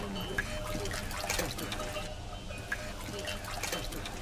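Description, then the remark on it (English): Fresh, non-salty drinking water trickles and dribbles steadily, a continuous liquid babble with small splashy drips scattered through it, and no one speaking. “It's drinking water! It's fresh water!”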